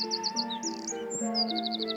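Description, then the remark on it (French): Songbirds sing without any voices: a Eurasian wren's rapid, high trilled notes come in quick repeated bursts while a blackcap's warbling phrases join in, moderately loud against a steady low background tone. “Alors, il y a un troglodyte mignon et puis une fouette à tête noire.”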